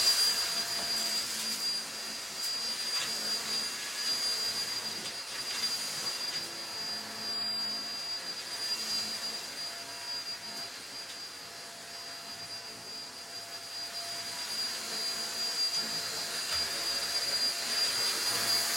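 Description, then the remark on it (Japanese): A cordless vacuum cleaner runs steadily, sucking up loose hair, a loud continuous whirring hiss with a high whine, its pitch shifting slightly as it moves, with no talking. “髪の毛がちょっと舞ってるから掃除機で吸い込もうこのコードレスタイプの掃除機がめちゃくちゃ便利で、やっぱ紐で引っ張ってくるとさ大変だったりするからさ、ほんと楽だなって思う。”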